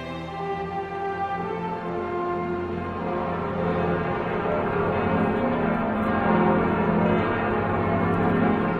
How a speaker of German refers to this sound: Die Glocken von Notre-Dame.